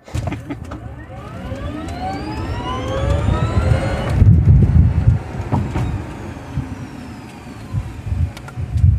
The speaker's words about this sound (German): Ja, wir sind jetzt gerade auf der Heimfahrt von unserer spektakulären Model 3 Tour. Also wirklich beeindruckend, die Performance von dem Auto.